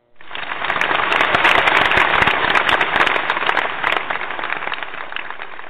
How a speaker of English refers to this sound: I know y'all wasn't going to call in and clap, so I just added clapping just in case, yes.